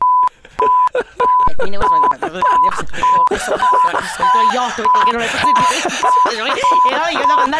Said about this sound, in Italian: adesso metti il beep ogni volta che ti faccio così. Sei pronto? 3, 2, 1, via.